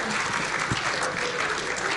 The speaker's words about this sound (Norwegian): Ja, applaus til deg. Veldig bra.